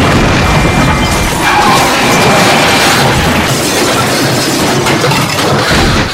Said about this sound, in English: As the tourists crossed 79th Street, a black Range Rover barreled across the red light at high speed, smashing into the driver's side of the car.